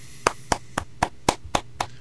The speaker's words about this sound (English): so when y'all listen to this, just pretend you're listening to us live and clap your hands together